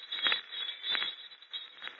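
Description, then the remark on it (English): Small jester's bells, or fool's bells, jingle in bright, high-pitched metallic bursts, shaken in a loose rhythm about every half second over a steady shimmering ring, with no voices. “For 40 years I've lived with the sound of those bells. Fool's bells. Jester's bells.”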